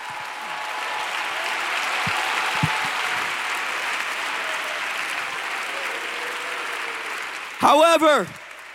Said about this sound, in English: Come on, if truth has ever delivered one of your family members, if truth has ever broke the chains, if it's ever broken the addiction, you ought to be clapping your hands right now.